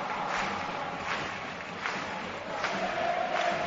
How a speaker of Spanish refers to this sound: Aplaude el trabajo defensivo la grada de Mestalla.